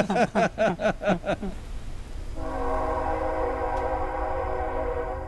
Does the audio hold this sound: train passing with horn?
yes